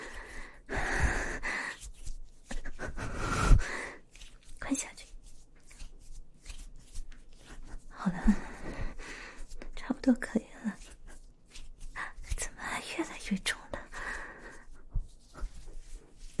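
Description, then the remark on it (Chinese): Heavy panting from the exertion of giving a back massage, with ragged breaths arriving in uneven bursts. Soft rustling and a faint murmuring voice come and go between the breaths. “看你累得都喘气了，还不停下？”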